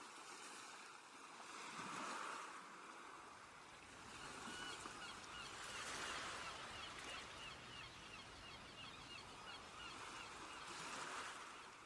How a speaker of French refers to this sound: Vous appréciez pour quelques minutes encore le bruit des vagues et des mouettes et la douceur de cette mer accueillante.